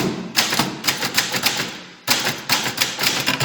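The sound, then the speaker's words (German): Rapid, clattering typewriter keystrokes in quick bursts, with a brief pause near the middle before the typing resumes. Fairly loud, with no voices. “Oder hier, die Schreibmaschine.”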